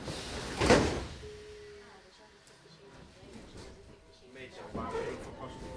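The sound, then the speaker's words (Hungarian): Train sliding doors close with a sharp whoosh and thud, followed by a faint mechanical hum and another rattling shuffle near the end, with indistinct voices in the background. “Vigyázzanak, az ajtók záródnak.”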